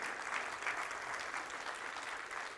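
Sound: audience clapping and cheering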